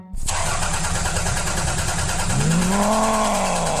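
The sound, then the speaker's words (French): A car engine in need of servicing cranks and sputters to life with a rough, strained roar, then settles into an uneven idle with a rising whine, loud with no voices. “Ah, il est vraiment temps que votre voiture soit entretenue par un expert.”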